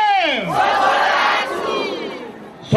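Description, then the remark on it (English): A large crowd of supporters at Chakwera's election campaign cheers and ululates loudly, a dense swell of high-pitched voices rising together, sustained for a few seconds before fading, with a sharp burst at the end. “And despite the pandemic, his campaign has attracted big crowds of supporters.”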